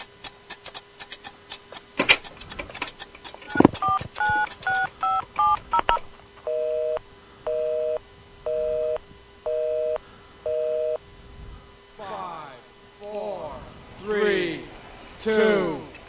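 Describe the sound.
A rapid run of touch-tone dialing beeps gives way to a busy signal pulsing about five times in an even on-off rhythm, followed by a voice at the end.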